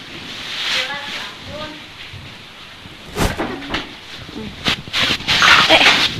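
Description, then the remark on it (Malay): Steady rain hisses throughout a thunderstorm, with several sharp, loud thunder cracks bunching up in the second half. A dog whimpers softly near the start. “Tuh, kilatnya agak besar.”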